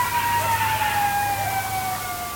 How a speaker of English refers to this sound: So Bennett shared audio clips they've recorded of coyotes.